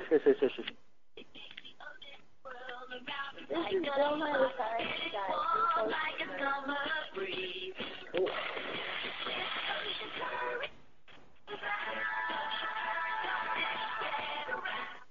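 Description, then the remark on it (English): A song played over a phone line by a phone with noise canceling, thin and band-limited, with a singing voice and backing music, steady and moderately loud with a brief dropout partway through. “So he's playing a song over the phone.”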